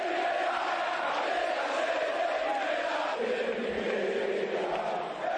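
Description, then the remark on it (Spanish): A large crowd of Rayo Vallecano football fans in Vallecas chants in unison the day the team was relegated, a dense, roaring mass of voices holding a steady sung refrain, 'el Rayo es de primera, Vallecas es de primera', at a constant loud level for several seconds, with no single voice standing out. “Escuchen lo que cantaba ayer Vallecas tras el descenso del equipo de la capital de España.”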